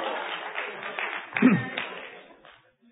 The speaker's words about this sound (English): Give her a hand. Outstanding. Listen to all these losers giving you applause. That's fantastic.